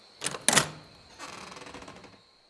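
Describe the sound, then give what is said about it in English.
Two sharp knocks on a door land in quick succession, the second a touch louder, followed by about a second of softer, rough shuffling noise before silence. “He got the standard cursory nod from Tommy, then knocked on the door.”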